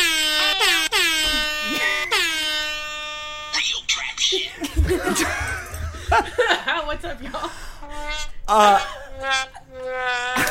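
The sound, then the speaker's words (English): A rapid string of loud air horn blasts as an audience welcomes a three-piece hip-hop crew from Brooklyn, New York, over the first few seconds, then a lively crowd laughing and cheering, with people talking amid the noise. “Air horns. You all went for the air horn.”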